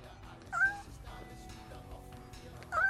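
A cat meows twice in a studio: one short, wavering meow near the start and another right at the end, with a low steady room hum in between.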